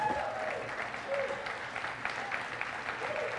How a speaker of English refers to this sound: Give a cheer, …. You're going to do good.